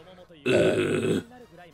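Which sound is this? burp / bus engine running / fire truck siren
burp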